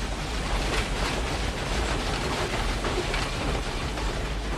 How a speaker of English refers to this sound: The front of the train steams past them.